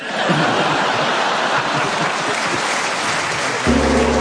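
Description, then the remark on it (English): Steady applause fills most of the moment, then a single gong is struck near the end to finish a game, ringing out loud with a deep, sustained, humming tone. “Oh, and the sound of that gong reminds us all that I've just discovered a way to finish that game.”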